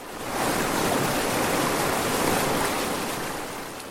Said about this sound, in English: But in early September, the dam managers open up the floodgates. The rushing water helps Yakima farmers irrigate their crops. It's called the Flip-Flop because it turns the sleepy Tyatine into a whitewater paradise.